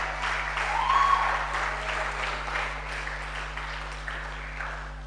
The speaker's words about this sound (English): If you believe that there's an expected destiny for you, I'm sure you can clap very well.